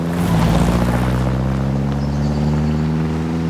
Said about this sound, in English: A car tears along the driveway towards Brideshead. Several other cars are parked outside the stately home.